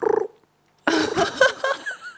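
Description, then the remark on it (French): A woman imitates a pigeon's cooing: a short, low, throaty pulsing coo, a brief pause, then a longer, louder burst of rolling, warbling vocal sounds. “Alors, moi, je sais imiter un oiseau. C'est le pigeon.”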